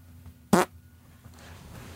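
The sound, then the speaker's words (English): A single short, loud fart bursts out about half a second in, a brassy rasp lasting a fraction of a second, then quiet low background hum with no talking. “That was real. Is that a lie?”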